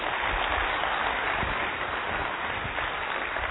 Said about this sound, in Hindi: One yes. Relax. जोर से तालियां बजाइए.